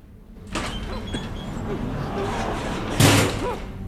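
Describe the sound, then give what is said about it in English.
A lift door is raised by a figure in a black silky cloak with red lining stepping into a workshop. It slides open with a steady rumbling, rattling grind that carries on for a few seconds, then a loud, heavy clunk as it reaches its stop, followed by a fading rattle. “As the figure raises the lift door and steps into the workshop, Tap watches from his hiding place.”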